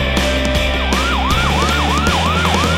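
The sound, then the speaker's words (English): A fire engine siren wails in a fast, repeating rise-and-fall pattern over a steady low engine rumble, loud, with no voices. “I see a fire engine.”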